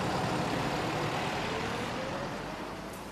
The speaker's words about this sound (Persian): اتوبوس رسید.